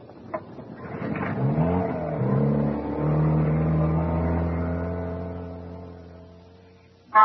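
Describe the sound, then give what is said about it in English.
The small inboard engine of a captain's dinghy starts up and revs, its pitch rising then settling into a steady, loud drone that holds for several seconds before a sharp clatter at the end. “Why do you think I picked the captain's dinghy? The only one with an inboard engine.”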